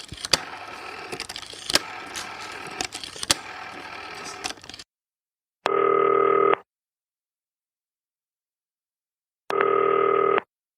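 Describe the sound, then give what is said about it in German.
A busy patch of clicky phone-dialing noise runs for a few seconds as a call is placed on a green telephone, then falls silent, followed by two loud, steady ringback tones spaced several seconds apart, with no voices. “Ab ans grüne Telefon.”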